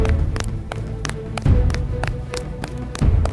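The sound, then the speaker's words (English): Quick, evenly spaced footfalls of someone running in a cargo area, sharp taps over a low rumbling background, with a couple of heavier thuds mixed in. No one speaks. “Master, I think I hear someone running. It sounds like it's coming from the cargo area.”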